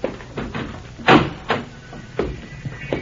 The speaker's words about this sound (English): Never mind. I'll open the door.